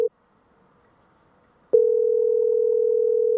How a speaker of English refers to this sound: They better pick up. Probably calling some bed and breakfast personal phone.